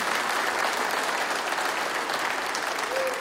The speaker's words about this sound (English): And yeah, let's applaud that, amen.